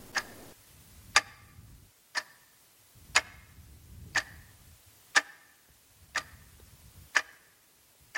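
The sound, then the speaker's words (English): Two clocks tick steadily together, sharp clicks about once a second, sometimes landing as a doubled click as they slip slightly out of step, one clock running slow, with a low hum underneath and no voices. “So, at the moment, they're ticking at the same speed.”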